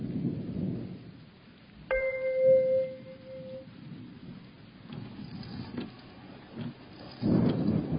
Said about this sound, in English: It was difficult to see the road through the pouring rain.